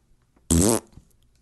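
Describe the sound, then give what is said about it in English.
A single loud, buzzy fart noise blown with the lips, about a third of a second long, with near silence before and after. “Yes, one of those was the sound of a fart.”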